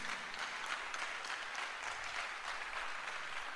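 A crowd applauds for Jesus, dense overlapping claps forming a bright, even wash of sound that holds at a constant loudness throughout, with no voices standing out.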